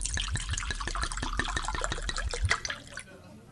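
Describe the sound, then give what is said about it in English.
Bourbon glugs from a bottle into a glass in a quick, steady run of liquid pulses, then trails off into a short splash and a few drips. No one speaks. “Bourbon sounds like just what the doctor ordered.”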